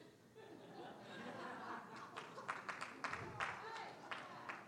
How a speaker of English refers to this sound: Everybody's clapping.